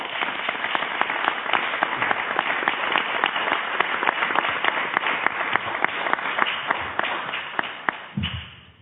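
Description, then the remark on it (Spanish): At the close of a talk session, an audience bursts into sustained applause for the UNED for lending the venue. It is a dense crackle of many hands clapping at once with sharp individual claps standing out, holding steady for about eight seconds before cutting off with a soft thud. “Y ahora, pues, muchas gracias y me gustaría darle a la UNED un aplauso por habernos dejado este magnífico local.”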